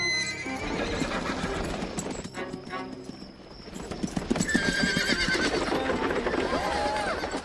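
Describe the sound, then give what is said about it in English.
A horse whinnies loudly while hooves clip-clop steadily, with rhythmic hoofbeats continuing throughout and a voice briefly audible in the background. “Get back here, you good-for-nothing horse!”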